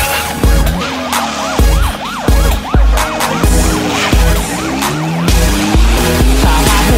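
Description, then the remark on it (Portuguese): Police sirens during a chase yelp in quick, repeated rising-and-falling sweeps, loud, layered over a heavy, pounding bass beat with no talking. “De repente, ouvi sirenes, era perseguição.”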